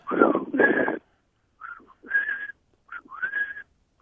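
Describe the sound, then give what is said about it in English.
A person whistles an imitation of a bird call, breathy: a few short phrases with pauses between, each holding a steady high note after a quick rise. “I'm really looking forward to your imitation”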